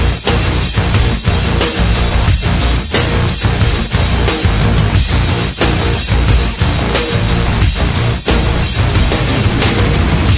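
Loud, dense theme music plays without a pause, driven by a steady beat of sharp percussive hits, with no voices over it.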